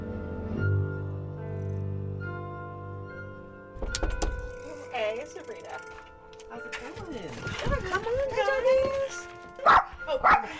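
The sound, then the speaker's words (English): A dog barks and yips in short, uneven bursts, following a steady mechanical hum, with a person's voice mixed in among the barks. “Oh, we're not gonna bark. We're not gonna bark.”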